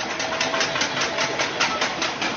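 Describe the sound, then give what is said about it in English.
Dense, rapid metallic clanging of many pots and pans being struck in protest against the military coup in Myanmar's biggest city on a Tuesday night, a steady crashing rhythm of loud overlapping bangs with no voices standing out. “The sound of pots and pans rang out in protest in Myanmar's biggest city Tuesday night.”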